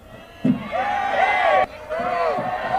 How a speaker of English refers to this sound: You see there, the enthusiasm, highly palpable, the people cheering, the people applauding, because they love President Trump. Genuinely love the man.